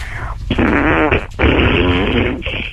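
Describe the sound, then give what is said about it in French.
A long, loud, wet fart from a phone-in caller in Vendée (85), France, in two main bursts with a short break between, sputtering and bubbly with a rippling, flappy texture, followed by a brief trailing puff. “Ouais, c'est le n'importe quoi, c'est le graisseux celui-là.”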